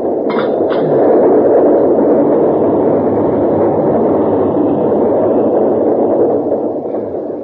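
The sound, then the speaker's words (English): A tunnel car, a flat car, rolls along the tracks at a plant with a loud, steady rumbling roar that holds for several seconds, with a couple of short metallic squeals near the start. “Tunnel car is coming pretty fast, sir.”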